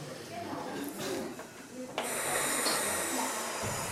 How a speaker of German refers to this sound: Und dann atmen wir ganz tief ein, in den Bauch unten, in die Flanken und atmen wieder aus. Und das machen wir nochmal. Einatmen.